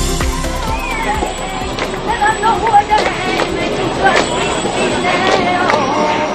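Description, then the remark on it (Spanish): Steady sloshing and splashing of many pilgrims and carts of the Rocío brotherhoods wading through the shallow water of the Quema ford, left by recent rains, with a busy crowd murmur, scattered knocks and clatters, and faint high whistles throughout. “Este sonido en directo del paso de las Hermandades del Rocío por el vado del Quema, al que las últimas lluvias han aportado una pequeña lámina de agua.”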